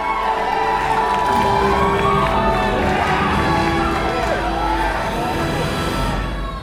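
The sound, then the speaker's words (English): A large movie theater audience at a Black Panther screening cheers and yells continuously, loud and dense, with overlapping shouts and whoops rising and falling for several seconds. “I don't think I've ever been in a more rapturous movie theater”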